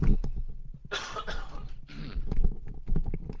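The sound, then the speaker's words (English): Two harsh, raspy coughs, each a broad noisy burst, surrounded by faint rustling and thumping handling noises as a headset is taken off. “So I'm going to take the headset off here and just have a little cough.”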